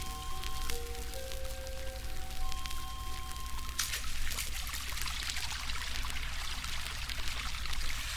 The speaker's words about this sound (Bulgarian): Какъв вълшебен миг. Колко е приятно в хладните води на реката.